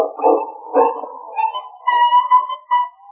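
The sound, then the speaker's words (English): A dog with its foot caught in a trap in the woods whimpers in distress, a series of high, wavering whines rising and falling over a few seconds, with no one talking. “But it's a dog. Sounds like he's in trouble.”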